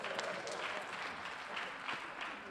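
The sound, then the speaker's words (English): Steady applause from an audience in Kenya in answer to the question of how many Kikuyus are in the house, a dense crackle of many hands clapping at once, holding an even, fairly loud level for the whole stretch with no voices on top. “Man, if that applause came from this side, you need to shift your hand back from that side and bring it this side.”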